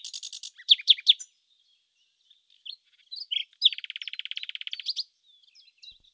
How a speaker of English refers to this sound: "But I think we shall soon hear her now." And presently the nightingale began to sing.